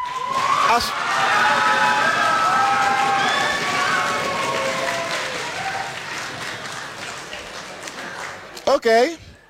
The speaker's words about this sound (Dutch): dan wil ik dat je zo hard mogelijk klapt en stampt op de grond als je kunt om duidelijk te maken dat diegene toch echt in de ballon moet blijven.